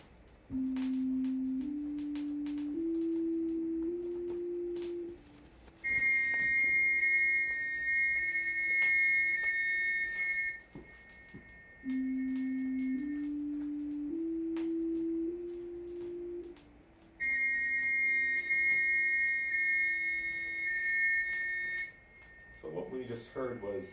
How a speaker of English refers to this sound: These intervals are composed in such a manner that in the ear a sequence of four combination tones is created.